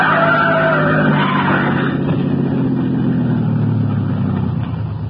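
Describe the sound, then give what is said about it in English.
A car's engine roars loudly and steadily while tires shriek in a high skid as it squeezes between a trailer ahead and an oncoming truck, the pitch sliding gradually downward over several seconds, with no voices present. “The trailer in front of him! And the oncoming truck!”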